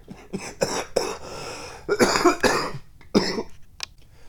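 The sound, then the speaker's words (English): A person coughs and clears their throat in a series of loud bursts, with short hacking coughs spread over a few seconds. “I have to make myself not cough.”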